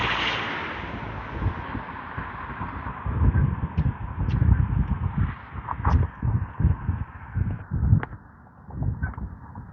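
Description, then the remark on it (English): Geese flying overhead in a long skein honk in scattered, harsh calls over steady rumbling wind noise, with several louder cries bunched near the end. No one speaks. “I heard a geese.”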